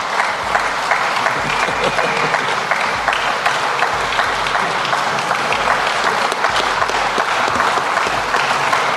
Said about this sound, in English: It was just applause? That's it?